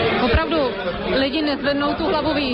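Dense, steady chatter of many overlapping voices fills a beer hall where people sit side by side on long benches talking, a continuous murmur of conversation with no single speaker standing out.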